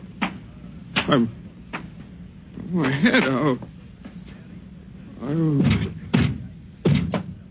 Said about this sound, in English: Oh, don't tear the door down. I'm coming.